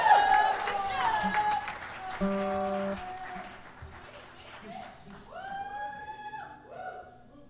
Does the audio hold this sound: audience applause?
yes